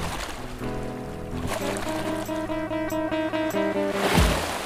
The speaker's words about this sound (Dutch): Onze tocht begint in Zeeland, waar de wind tot vroeg wakker sist. De slaande golven, die als een eeuwig geluid op de achtergrond speelt.